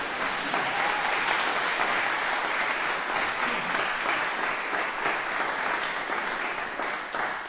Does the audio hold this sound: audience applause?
yes